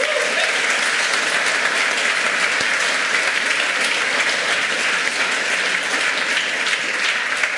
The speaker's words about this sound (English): Give these guys a huge round of applause for making the first step.